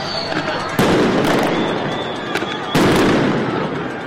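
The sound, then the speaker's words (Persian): Two loud, sharp bangs of tear gas canisters fired by federal officers in downtown Los Angeles to disperse protesters, a couple of seconds apart, each ringing out briefly, with a few fainter pops between them over a constant noisy outdoor crowd rumble. “رسانه‌ها گزارش دادند که افسران فدرال در مرکز شهر در تلاش برای متفرق کردن معترضان اقدام به پرتاب گلوله‌های گاز اشکاور کردند.”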